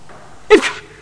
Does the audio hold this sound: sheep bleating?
no